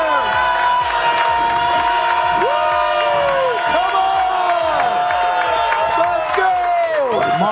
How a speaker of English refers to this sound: Wow, what, man. What a turnout. Hey, give yourselves a round of applause. Y'all look great.